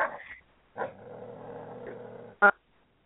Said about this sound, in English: I just heard a dog, and I don't even have one.